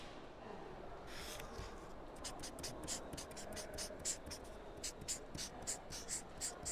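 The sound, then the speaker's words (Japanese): A pen scratches across paper in a quick series of short strokes, fairly quiet, building into a brisk rhythmic scrawl as someone signs a contract. “ではこちらの契約書にサインを。ペンはこちらをお使いください。”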